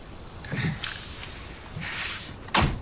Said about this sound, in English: Okay, I'm gonna close the door.